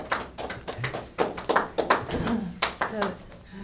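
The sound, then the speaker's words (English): A small group breaks into brisk, uneven applause, the sharp claps overlapping for a few seconds, with faint voices mixed in. “Give me a nice round of applause.”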